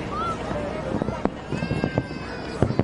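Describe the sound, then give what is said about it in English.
A fireworks display going off: a whistling streak followed by a scattered series of sharp bangs and pops at irregular intervals, with a faint murmur of voices in the background. “This is the fireworks display last night.”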